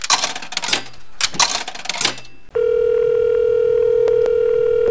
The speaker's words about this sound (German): Heute ist Deutschland endgültig fertig mit öffentlichen Telefonen. Schluss mit Telefonzellen, an denen man mit Bargeld telefonieren kann. Diese Münzfernsprecher der Telekom werden bundesweit deaktiviert.